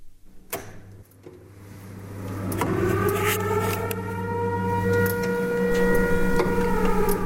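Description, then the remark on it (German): A few sharp clicks, then a civil defence warning siren, set off for a test at 1:30 by pressing the green general alarm button, winds up from a low hum into a loud, steady, droning tone with layered harmonics that holds to the end. “Sirene funktioniert.”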